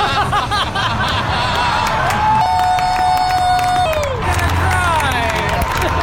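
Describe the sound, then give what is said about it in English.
A large stadium crowd at a Washington Nationals versus Pittsburgh Pirates baseball game cheers and roars after a marriage proposal, in a dense, sustained wash of voices, with scattered whistles and a brief rising whoop cutting through the loud, continuous noise. “the pair embraced while the crowd cheered.”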